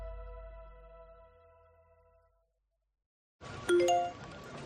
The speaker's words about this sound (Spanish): Notificación Securitas Direct. Persona detectada en el jardín.